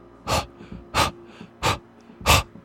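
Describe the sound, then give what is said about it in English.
Wet, rapid breathing of a beagle puppy at the door to City Hall: four harsh, raspy breaths in a steady quick rhythm, each a loud noisy burst with brief quiet gaps between, and no voices. “A wet, rapid breathing.”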